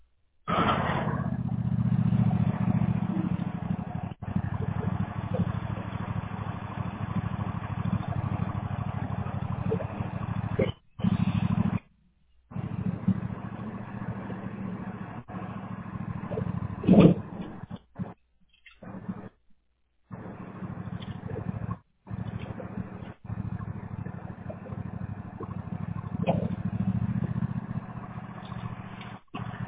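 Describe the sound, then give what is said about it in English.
A small gasoline lawnmower engine, being moved from beside a fence, drones loudly and steadily with a low, rough rumble, broken by a few abrupt cutouts where the sound drops out for a moment. “It's going to get loud for a second. I have my lawnmower by the fence. I'm about to move it real quick.”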